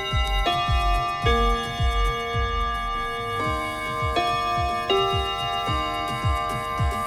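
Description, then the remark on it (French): Radio Bonheur's time chime at 8:03 pm: bright, bell-like tones ring out in a few staggered strikes over a steady, regular ticking like a clock, with no voices. “Au carillon de Radio Bonheur, il est 20h passé, même 20h03”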